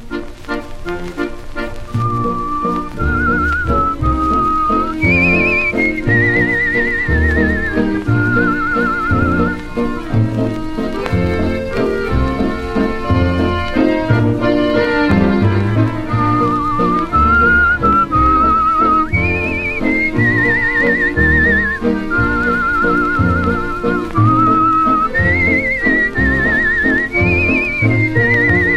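An orchestral waltz recording plays steadily, a lilting bright melody gliding above a rhythmic lower accompaniment with a regular oom-pah-pah pulse, loud and continuous throughout.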